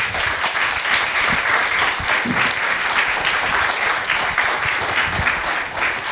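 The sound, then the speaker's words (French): A crowd of people applauding Serge Tisseron steadily, a dense, continuous patter of many hands clapping that holds at an even, fairly loud level throughout. “Je pense qu'on peut applaudir Serge Tisseron.”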